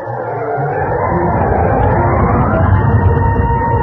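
alarm going off

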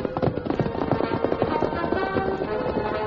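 horse galloping

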